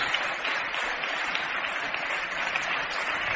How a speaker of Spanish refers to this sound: Two-time NBA champion, Mr. Pau Gasol. Gracias. ¿Aplausos?